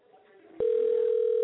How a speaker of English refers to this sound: So... I don't know why the phone is still ringing, though.